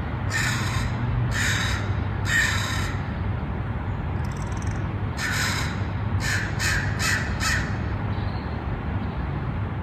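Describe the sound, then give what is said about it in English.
Crows caw in a series of harsh, repeated calls, some in quick bursts of three or four, over a steady low rumble of city traffic in downtown San Francisco, California, United States, with no one speaking. “And I get to listen to crows almost every morning, along with my cat, Dusty Jr., looking out my window onto the city skyline”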